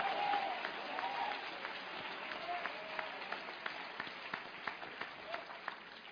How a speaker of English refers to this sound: Stop being proud and clap your hands for 5 seconds and thank him for something.